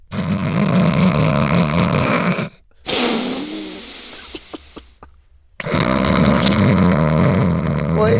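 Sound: voice imitating loud snoring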